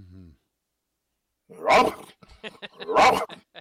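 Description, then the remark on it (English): A voice imitates a mean dog, letting out two loud, harsh, growly bark sounds about a second apart, with rougher grumbling between them, forceful. “It ain't just a rough, rough. It's the rah-rah, rah-rah.”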